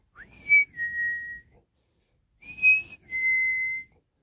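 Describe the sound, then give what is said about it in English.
A person whistles a bird-like call twice, each a short rising chirp sliding into a steady held note, clear, with a pause between the two calls. “He heard like a bird whistle.”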